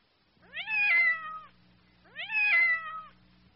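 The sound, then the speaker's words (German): A cat meows twice in a row, each call a drawn-out, rising-then-falling wail, clear, separated by a brief pause with a faint low hum underneath. “Ja, das ist eine Katze.”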